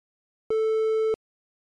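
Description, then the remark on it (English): A single steady electronic beep, about two-thirds of a second long, at a constant mid-high pitch with bright harmonics, starting and stopping abruptly amid silence; a cue tone in a German language lesson's test, signalling when to say the answer. “Please say after the beep sound.”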